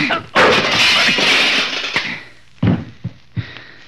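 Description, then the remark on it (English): A sharp punch lands, knocking a man down, followed by a loud, drawn-out crash as his body tumbles down, then three heavier thumps spaced apart as the clatter settles. “Wilson, knocking you down doesn't give me any satisfaction at all.”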